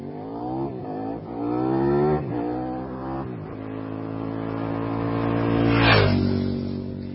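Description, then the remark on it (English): A motorcycle engine revs up several times in quick succession, its pitch climbing and dropping, then roars through a final surge. It is loud and heard alone, with no talking. “Anybody out there a big motorcycle rider?”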